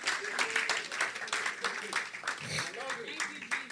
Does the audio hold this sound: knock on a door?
no